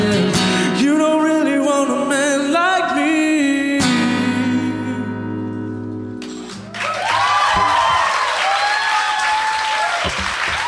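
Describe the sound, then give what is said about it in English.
A recently amplified live band plays a loud, punchy song that ends on a held, fading chord. Then the audience in a 165-seat venue bursts into loud cheering and clapping, with high whoops rising above the roar for several seconds. “When the tune stopped on a dime, the 165-seat venue swelled with cheers, louder than the recently amplified band on stage.”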